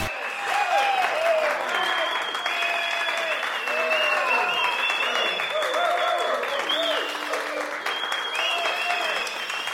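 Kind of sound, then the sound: crowd, theater audience applause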